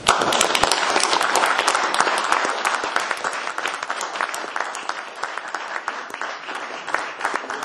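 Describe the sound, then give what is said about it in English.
An audience applauds steadily for a group of people being thanked, a dense crackle of many hands clapping at a fairly even loudness that eases slightly toward the end, with no one speaking. “I think they need one more clap.”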